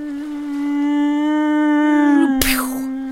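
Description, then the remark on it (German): A voice imitates a mosquito with a steady, nasal buzzing hum held for over two seconds, then a sharp smacking burst cuts in while the drone briefly carries on. “Ich selber war jahrelang, habe die Mücke synchronisiert für Zoo-Shows und auch für Hollywood-Filme.”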